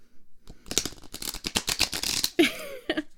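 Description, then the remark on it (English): A quick run of crisp, papery flutters as a newly bought deck of cards is shuffled, a rapid riffle of sharp clicks followed by a couple of softer taps as the deck settles. “I'm gonna shuffle this deck though, because I just got it and I love it, and I like shuffling them when they're new because they smell so good and they make this really crisp sound.”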